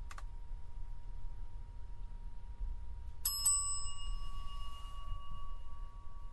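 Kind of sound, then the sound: signal or alarm, bell ringing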